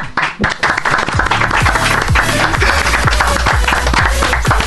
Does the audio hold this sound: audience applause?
yes